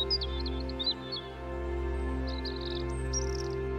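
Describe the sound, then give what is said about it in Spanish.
Scattered bird chirps and short trilling phrases flutter over a steady low hum, with a brief pause between two bursts of song. “Y escuchas el canto ocasional de los pájaros.”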